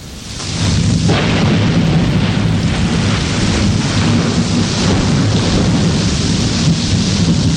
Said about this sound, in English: This rain brings nourishment to the landscape and gardens.